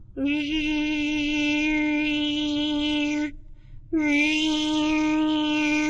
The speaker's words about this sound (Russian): Мимо пролетала пчела.